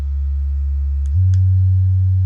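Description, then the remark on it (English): A Magic Wand Rechargeable wand vibrator runs with a loud, steady, tone-like low hum that steps up to a higher speed partway through, with a couple of faint clicks and no talking. “I'm going to crank up this magic wand. This is the Magic Wand Rechargeable.”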